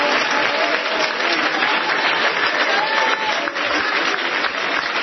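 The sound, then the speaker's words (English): A church audience claps their hands in praise during a service, in a steady, continuous roar of applause that stays loud and even throughout, with a few faint voices mixed into the clapping. “Somebody clap your hands and praise Him again.”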